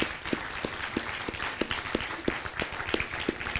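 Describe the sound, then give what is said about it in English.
A standing church audience applauds God steadily, a dense wash of clapping with a few sharper, louder claps standing out at a roughly regular beat, sustained throughout without any talking. “So we're not applauding you right now, but let's all stand and give God an applause for what he does.”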